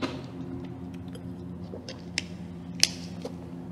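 A quiet sip of a drink, with a few small wet mouth clicks and a soft swallow against a low background hum; nobody speaks.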